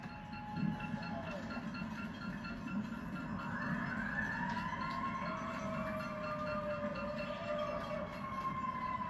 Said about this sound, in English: Heard that sign sound a lot up here. Geez, I wonder if they're raising that siren for thank you or for going out.